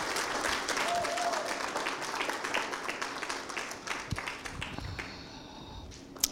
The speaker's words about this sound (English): Thank you, girls. Can we give them a clap? Didn't they do amazing?